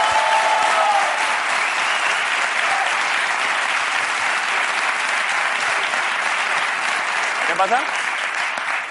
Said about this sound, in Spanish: bueno, antes de nada, un aplauso para Ricardo y Grison, que luego se me da las manos.